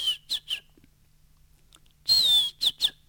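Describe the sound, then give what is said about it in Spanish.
Someone whistles an imitation of a barn owl's screech as heard in the countryside: three short hissy whistles, a pause, then a longer falling screech followed by two quick shorter ones. “Espera, yo digo así, en el campo la lechuza pega el chistido.”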